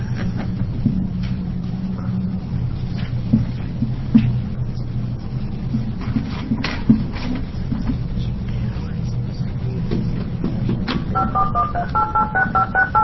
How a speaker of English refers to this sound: There's no sound. Yeah, those dial tones are good when you get those things.